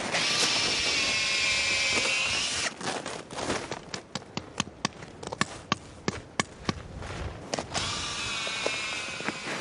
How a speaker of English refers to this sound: These are the spigots. They're little round plastic pieces, about a quarter of an inch in diameter. Drill a hole in the tree and just simply pound it in.